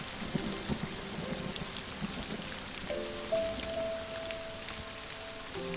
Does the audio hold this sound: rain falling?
yes